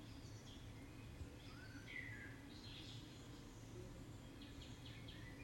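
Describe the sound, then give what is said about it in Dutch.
Soft, scattered birdsong chirps and trills from birds all around, over a steady low ambient hum, with no voices, the calls overlapping loosely without a regular rhythm. “En luister naar de geluiden van de vogels om je heen.”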